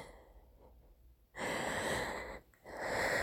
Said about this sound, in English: I lay on my back, breathing heavily and quivering.